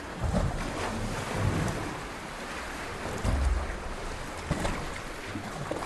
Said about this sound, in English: That's a sound clip from sea caves around Lake Superior, sent to us by listener Ken Perico of Holcomb, Wisconsin.